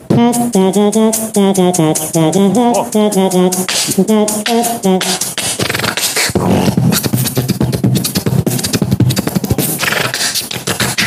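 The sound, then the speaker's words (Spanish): A loud beatbox performance: about five seconds of sung, pitched vocal bass notes, then a dense, fast run of sharp mouth-made drum hits and hissy scratch-like sounds. “Viene beatbox, ¿eh?”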